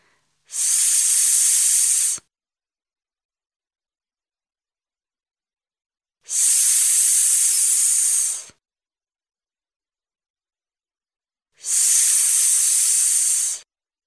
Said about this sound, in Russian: Воздух выходит из лопнувшего шарика.